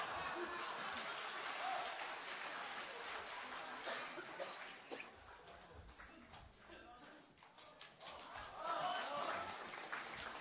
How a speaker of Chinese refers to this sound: 谢谢各位的掌声。